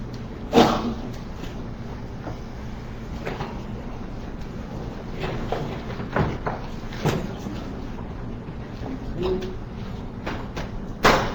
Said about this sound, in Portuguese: Então tá, vamos fechar a porta lá.